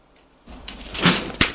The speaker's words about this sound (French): La porte s'est ouverte.